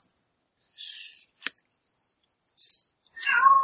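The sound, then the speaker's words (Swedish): A single clear cat meow rises and falls near the end, after a faint steady high whine, a few soft hissy bursts and one sharp click. “Nu kommer katt.”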